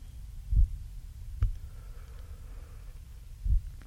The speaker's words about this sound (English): Heartbeat gets slower. Slower. Slower, fainter. And it's gone.